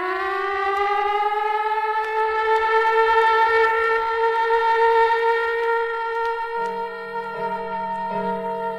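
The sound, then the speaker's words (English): A loud location signal siren wails in one long, sustained tone that slowly creeps upward in pitch, with a lower, buzzier tone joining in toward the end. No one speaks. “There is the location signal.”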